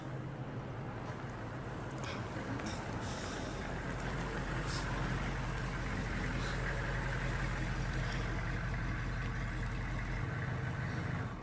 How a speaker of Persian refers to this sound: چرا ماشین رو خاموش کردی؟